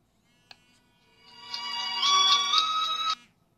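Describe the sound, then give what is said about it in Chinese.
A mobile phone with a China Mobile SIM card rings as a call is placed to it, with a bright, tonal ringtone that swells in loudness for about two seconds, then cuts off abruptly as the call connects, preceded by a faint click. No one speaks. The phone is beside a sound card and microphone being tested for interference. “这是一个移动卡。那么我把它打通啊。”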